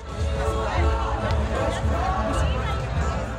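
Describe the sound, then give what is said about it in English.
A dense crowd at a political rally in Jerusalem murmurs and chatters continuously, many overlapping voices blending into a steady, fairly loud hubbub with no single speaker standing out, responding to Prime Minister Netanyahu's voice coming from a large screen. “Like the crowd at this rally in Jerusalem, the refusers who signed the letter are deeply mistrustful of the current government.”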